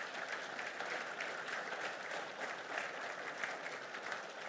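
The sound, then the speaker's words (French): A church audience applauds the worship team steadily, a dense wash of many hands clapping at an even level for several seconds, with no talking over it. “Merci à l'équipe de louange et glorifions Dieu par une main d'applaudissement pour les dons qu'il donne à l'Église.”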